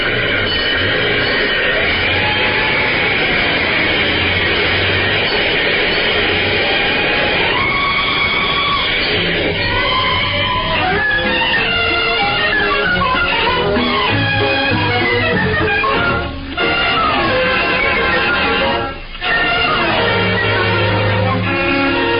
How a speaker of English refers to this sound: This fire engine for Let's Pretend, Puss in Boots, and points north. Step on it.